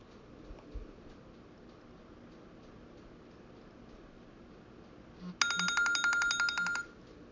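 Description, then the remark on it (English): A timer alarm goes off near the end: a loud, high electronic trill of rapid beeps lasting about a second and a half, rising above a faint, steady background hiss. “If you continue to be good, I will let you stand up from that ouchy chair pressing into your sit spots and rub lotion on your bottom when the timer goes off.”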